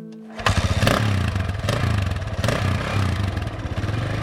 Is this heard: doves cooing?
no